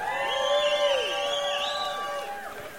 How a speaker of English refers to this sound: So give yourselves a round of applause for all the amazing work that you're doing. Thank you so much.